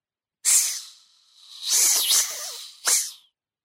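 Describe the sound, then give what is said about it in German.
Three sharp, airy hisses from a snake coiling around an ankle and winding up a calf, the hissing growing louder and more threatening; the first and second long and loud, the last a short burst, with no talking. “Erschrocken zog ich das Bein weg, aber die Schlange hatte sich schon um meinen Knöchel geringelt und wand sich an meiner Wade nach oben. Das Zischen wurde lauter, bedrohlicher.”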